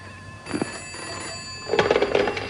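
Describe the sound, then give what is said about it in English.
A telephone bell rings in two bursts, a short trill followed by a longer, louder rattling ring, with no voices over it, as a call is put through to a missing persons bureau. “She put the phone through.”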